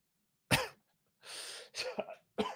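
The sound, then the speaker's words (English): Several harsh coughs, a sharp burst followed by a longer raspy throat-clearing stretch and more quick coughs, with no talking. “Questions from Charles is making me cough.”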